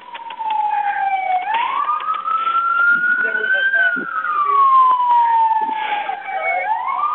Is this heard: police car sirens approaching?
yes